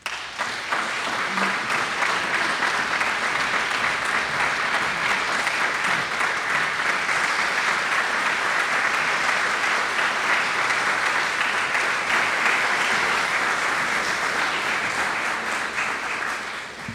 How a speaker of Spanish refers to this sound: Invito al escenario entonces, con un gran aplauso de vuestra parte,